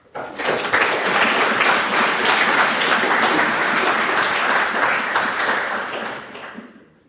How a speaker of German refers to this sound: Ich glaube, also mein erster, wo es heute spontan Applaus gab, also da gab es die letzten zwei Tage auch nicht zwischendurch, das kannst du dir definitiv auf die Fahnen schreiben.